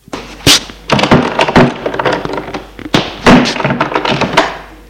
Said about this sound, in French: Sortir de la chambre. Passer devant la chambre de Cyril et ouvrir la porte qui est à gauche de la chambre à Cyril.